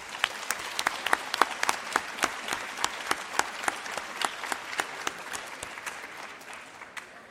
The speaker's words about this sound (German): Ich bitte um einen herzlichen Applaus für den Einsatz und die Unterstützung der Jury.